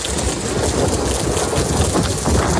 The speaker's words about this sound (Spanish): Está lloviendo con fuerza ya en muchos puntos.